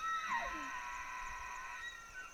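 A single elk bugle in Benezet, Pennsylvania: a long, high, whistling call that sweeps downward at the start, then holds steady for about two seconds, with no voices.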